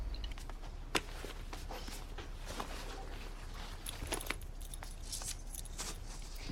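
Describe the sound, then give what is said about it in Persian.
Keys to a place in the town centre jingle and clink as they are handed over, in a series of small metallic rattles, with a sharper clatter near the start and more bursts later, fairly quiet, with no talking. “یه جایی تو مرکز شهر دارم، میتونم کلیدشو بهت بدم، اما تا هفته دیگه باید پسشون بدم.”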